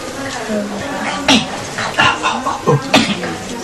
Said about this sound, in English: Coughing out the answer.